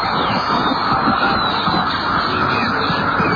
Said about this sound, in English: Oh, by the way, and there's one, a popular one from yesterday that we forgot to. There's your dentist drill.